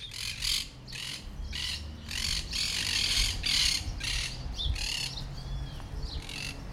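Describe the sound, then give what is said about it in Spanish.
Burrowing parrots (loro barranquero), a Patagonian species, squawk in a rapid, repeated series of harsh, loud calls, several birds overlapping, with a low rumble of wind or ambient noise underneath. “El loro barranquero es una de las especies patagónicas muy fácil de descubrir y distinguir.”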